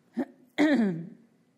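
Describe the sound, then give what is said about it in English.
A short, sharp catch in the throat followed by a longer, voiced cough that trails off and falls in pitch, moderately loud, with no talking. “And after we were all done, sorry, I'm going to cough.”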